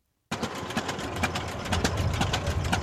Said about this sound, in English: In Boscobel City Park, two tractors are racing, very slowly. That's the point. The object is to see who can go the slowest without killing their engine.